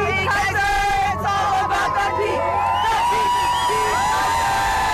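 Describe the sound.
A welcoming crowd at the finish of the Kusko 300 sled dog race in Bethel cheers and whoops loudly and steadily as the winning musher arrives, with mixed shouts and babbling voices layered together, a few higher-pitched yells rising over the sustained roar throughout.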